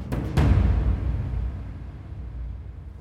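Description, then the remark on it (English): Water bubbles and churns in a backyard hot tub where a man and his friends sit, in Shutesbury, Massachusetts, in January 2000, opening with a few brief splashy bursts before settling into a steady, low rumble that slowly softens. No voices. “In his backyard hot tub, Terry Mulner and his friends sit as water bubbles around them.”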